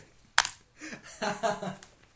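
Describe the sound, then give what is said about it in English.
A dollar coin drops into a jar with a sharp, bright clink, followed by a run of rattling, jingling metallic clatter as it settles, fading out after about two seconds. “Otherwise, it's a dollar in the jar, mate.”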